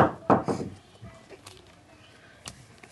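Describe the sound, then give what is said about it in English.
The smallest of three wooden chairs snaps with a loud, sharp crack as a girl settles down into it, followed by a few scattered knocks and clatters of pieces falling, then near silence. “"Ah, this chair is just right," she sighed, but just as she settled down into the chair to rest, it broke into pieces.”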